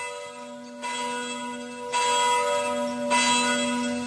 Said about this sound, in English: and therefore never send to know for whom the bell tolls. It tolls for thee.